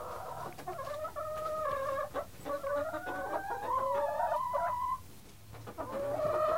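Several chickens cluck and squawk, their overlapping, rising calls running almost continuously for several seconds with brief pauses and no talking.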